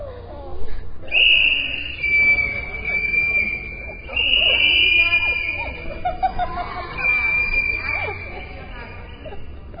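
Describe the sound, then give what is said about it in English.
A crowd blows whistles together as part of a service in a former Catholic church, a sustained, shrill chorus of overlapping high tones lasting several seconds, with a few brief dips, over a bed of murmuring voices and general hubbub. “Yeah, has everybody got a whistle?”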